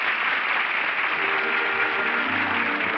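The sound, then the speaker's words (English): Steady, dense applause from a theater audience as the curtain comes down on an opening night performance at the little theater off Times Square, the all-star cast acknowledging it in front of the footlights; a continuous wash of many hands clapping at even loudness, with no voices rising above it. “It's part of the delay of the all-star cast in front of the footlights acknowledging the applause.”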